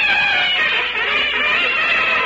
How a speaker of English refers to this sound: Have you built up that new fanfare? Have I? I'm using two trumpets. Read off the newsreel over there. I'll show you how it sounds.